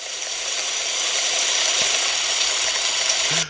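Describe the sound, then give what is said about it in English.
A flowing stream gives a steady, unbroken rushing wash of water, bright and hissy, holding an even loudness throughout with no voices, and a faint brief blip near the end. “That's a stream.”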